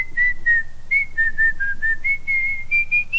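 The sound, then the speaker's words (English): Someone whistles a slow, wavering melody, gliding through a series of sustained notes that rise gradually in pitch, with no talking and only a faint low rumble beneath. “She could not sing on key, but she could whistle.”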